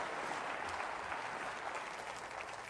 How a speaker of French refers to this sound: Applaudissez le Dieu qui abat les géants.